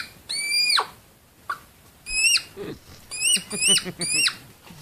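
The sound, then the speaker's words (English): Hedgehogs by a school in Germany making shrill, bird-like squeaks, about five or six quick falling chirps in short bursts, with soft snuffling and rustling between them and no talking; people called the police about the noise. “It's actually hedgehogs flipping pancakes.”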